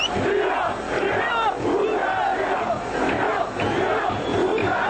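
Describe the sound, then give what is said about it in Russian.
A large crowd of about 10,000 opposition supporters shouts and chants together in the streets of Budapest, demanding the resignation of Gyurcsány, a dense, continuous roar of many voices with rising and falling surges of yelling. “Накануне около 10 тысяч сторонников оппозиции вышли на улицы Будапешта, требуя отставки Дюрчаня.”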